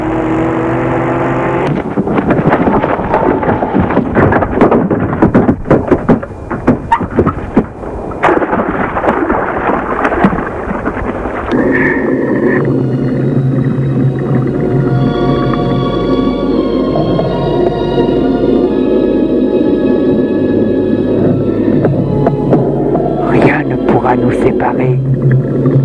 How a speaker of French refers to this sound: à vive allure. J'enfonce la voiture dans le lac.